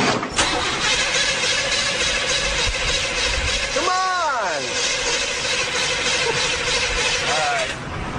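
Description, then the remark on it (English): A car engine cranks steadily for several seconds, a loud, continuous grinding whir that never catches and fires. A brief vocal sound rises over it partway through. “to test whether a car could even run on hydrogen in the first place, the boys are going to hose some directly into the carburetor”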